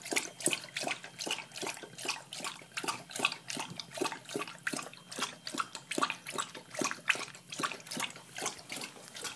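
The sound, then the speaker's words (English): A dog laps water in quick, steady slurps, about two to three wet splashy laps per second, continuing without pause for several seconds, moderately loud with no talking. “That was him drinking his water, enjoying it, having a good time.”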